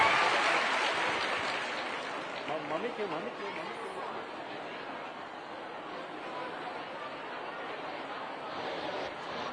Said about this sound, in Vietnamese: Dạ, một lần nữa xin mời các bạn cho một tràng pháo tay thật lớn để chào đón